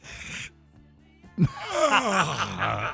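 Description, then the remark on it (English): A short breathy exhale, a brief pause, then one long, loud, drawn-out groan that wavers in pitch, like someone straining through a big stretch. No talking. “Take a stretch.”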